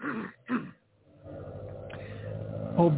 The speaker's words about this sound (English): Oh boy, there's my neighbor starting his little Japanese, what do you call those cars, little rocket ships, pocket rockets or something.